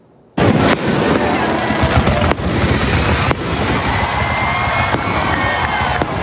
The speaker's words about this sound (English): How cool is that, right? More than 11,000 fans who stuck around at the DBAP were treated to an amazing fireworks show after the game.